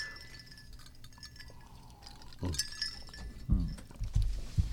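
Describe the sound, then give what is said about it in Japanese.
Glasses clink together once in a toast at an evening gathering welcoming a guest, a bright ringing tap that lingers briefly, followed by soft thuds and handling sounds with quiet surroundings. “乾杯。 乾杯。”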